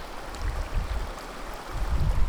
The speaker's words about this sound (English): I, as an anarcho-capitalist, am standing right here in the middle of the stream bed. Listen to this. I have water to the right of me. Yep. Now, I have water in front of me. Hold on. I have water to the left of me.